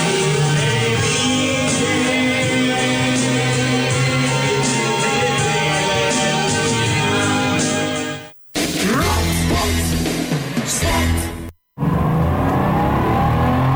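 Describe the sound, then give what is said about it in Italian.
A loud car engine roars steadily, then revs up and down in short bursts after two brief cuts, with no voices over it. “Bella la tua auto.”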